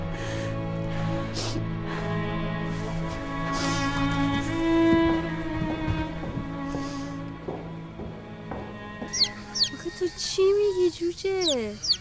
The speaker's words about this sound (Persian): جوجه ببین چقدر نازه.